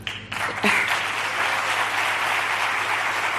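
An audience breaks into steady, sustained applause, a dense wash of many hands clapping at an even loudness from start to finish, with no voices standing out.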